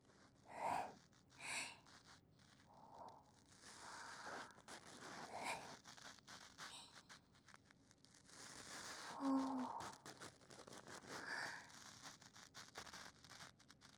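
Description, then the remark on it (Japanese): Soft scratchy rustling of a silicone brush ear pick with 160 fine hook-shaped silicone bristles working inside an ear, coming in irregular strokes and bursts with brief pauses, quiet and intimate with no talking. “今年発売されたばかりの最先端のシリコンブラシ耳かきです。”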